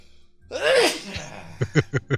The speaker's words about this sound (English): Some woman, I'm going to sneeze.